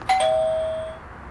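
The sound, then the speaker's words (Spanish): A doorbell at a house, rung by news reporters trying to speak with the owner, chimes with two quick, clear ding-dong tones that ring out and fade over about a second, distinct with no voices. “Tocaremos el timbre para tratar de hablar con él.”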